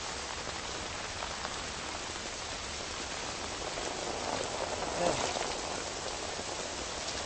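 rain falling

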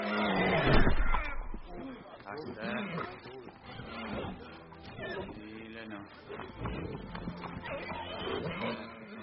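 horse

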